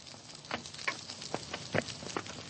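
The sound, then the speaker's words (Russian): Logs crackle in Polina Ivanovna's wood stove, throwing out irregular sharp pops and snaps over a soft steady hiss, moderately loud, with no voices. “Трещат поленья в печи у Полины Ивановны.”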